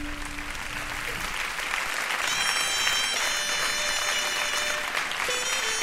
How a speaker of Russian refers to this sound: Аплодируйте зрителям и победителям.